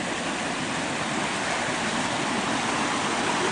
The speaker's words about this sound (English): Walking down to the creek. The waterfalls all along, rushing through the roaring waters.